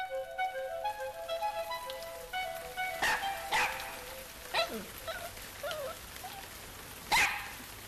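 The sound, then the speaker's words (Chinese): Water sprays from a watering can, filled with water by a dog to make a rainbow, in a few short, hissing bursts at irregular intervals, with sharp yips and soft tonal sounds in the background and no talking. “于是他拿来了一个喷壶，装上水。”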